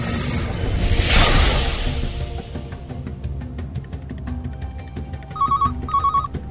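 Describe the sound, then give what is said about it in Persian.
A sweeping whoosh passes early on, then a telephone starts ringing with two short, bright electronic trills in quick succession, fairly loud, with no one speaking. “آروم به سمت تلفن می‌رفتم.”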